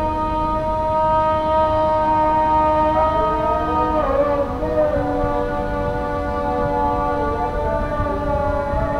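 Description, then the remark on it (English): A train passes in the early morning with a long, steady horn-like drone whose pitch wavers and dips midway, holding loud and continuous throughout with no voices. “Only the trains and the imams are awake.”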